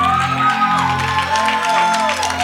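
The Greater Church audience in the sanctuary gives a restrained golf clap for Jesus, a steady wash of soft, polite handclaps lasting a couple of seconds, with sustained tones held underneath and no one speaking.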